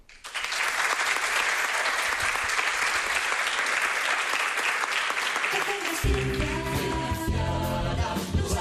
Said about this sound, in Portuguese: imos decir que quedes unha mesa máis alén da mesa dedicada aos profesores, os profesores que lles damos este forte aplauso.